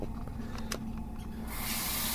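Quiet hum with a few faint clicks, then about halfway through a tap is turned on and water runs in a steady, bright, hissing rush that continues to the end.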